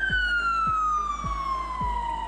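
A loud ambulance siren wails, its piercing tone gliding slowly downward in pitch, with a steady low rhythmic thumping underneath about twice a second. No one speaks.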